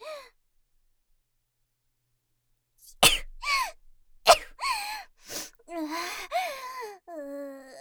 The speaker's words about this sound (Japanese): やるぞ、やってやるんだから。普段こんなことしないからただでさえ気持ち悪いのに、人に向かってくしゃみをするだなんて。